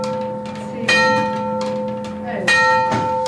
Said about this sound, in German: Halb schlägt sie einmal und umschlägt sie immer die Stundenzahl. Zur Bestätigung schlägt ein Hammer an die am Turm angebrachte sogenannte Uhrschelle.